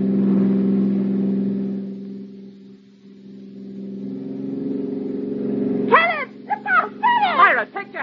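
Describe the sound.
A car engine drones steadily, easing off briefly and then building again as it accelerates, with short high whining, voice-like sounds breaking in over the motor near the end.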